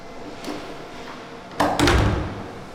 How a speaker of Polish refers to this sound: Wchodzimy na trzecie piętro przez pierwsze drzwi, które pełnią rolę przeciwpożarową.